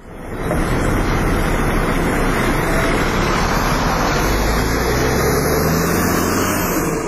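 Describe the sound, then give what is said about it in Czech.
A bus bringing refugees to the European Union border between Serbia and Croatia rumbles steadily and loudly, with a constant low drone and road noise as the vehicle pulls in, and no voices are heard. “Sedmice su prošle pre nego što ga je ovaj autobus dovezao na prag Evropske unije.”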